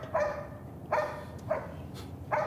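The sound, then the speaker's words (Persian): A black dog barks four times in an uneven rhythm, each bark short and sharp, standing out clearly against a faint background hiss with no one talking. “اون سگ تو سیه رو میبینی؟ اون اونجاست.”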